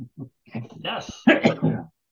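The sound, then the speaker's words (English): Someone clears their throat, a few short grunting catches followed by two longer, rough, rasping coughs, with no talking around them. “Get the cough button going.”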